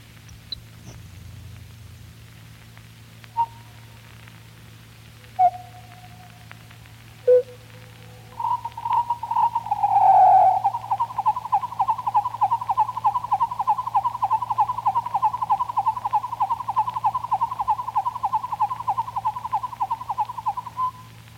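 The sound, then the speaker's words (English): Grasshopper sparrow song, slowed down so its pitch drops by three octaves: a few separate thin, clipped notes, then a long, steady buzzing trill that drones on for over ten seconds above a faint low hum. “The Grasshopper Sparrow.”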